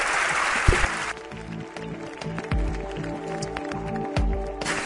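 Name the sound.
audience applause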